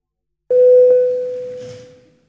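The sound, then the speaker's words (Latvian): A single bell-like electronic tone rings out in a parliament chamber to call a vote on amendments to the Sports Law in third and final reading, with a sharp onset, holding one steady pitch for about two seconds before slowly fading, with faint room noise beneath and no talking. “Lūdzu zvanu balsosim par likuma projekta grozījuma sporta likumā atbalstīšanu trešajā un galīgajā lasījumā.”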